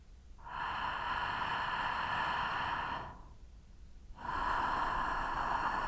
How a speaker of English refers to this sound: Keep on with the throat friction. Note that you don't have to breathe through the mouth.